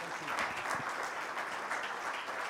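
Sustained audience applause, a dense wash of many hands clapping at steady loudness throughout, fairly close and filling the whole stretch with no voices standing out.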